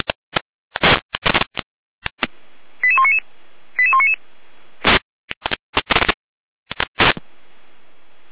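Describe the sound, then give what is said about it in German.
German fire brigade radio alerting tones for Gera, sent by the Jena dispatch centre during a test call: two quick sequences of high, stepped electronic beeps, each lasting about half a second, set among sharp bursts of radio static and crackle with no talking. “Gera mit Alarmierung.”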